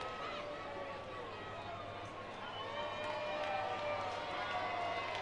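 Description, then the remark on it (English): A large baseball stadium crowd cheers and roars steadily throughout for pitcher Estrada as he stays in the game, a dense wash of many voices at a constant, fairly loud level with no single voice standing out. “As the crowd cheers him on here.”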